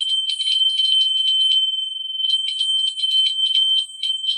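A bright, high-pitched hand bell hanging at the top of a stairway, rung rapidly and continuously, loud, its clattering strokes running together into a steady jangle with a couple of brief slackenings.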